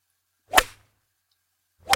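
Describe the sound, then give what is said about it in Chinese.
Two sharp swishes of a teacher's pointer whipping through the air, each a quick bright crack-like snap, the first at mid-clip and the second cut off at the end, with silence between and no talk. “否则的话，我手里的教鞭可不是吃素的。”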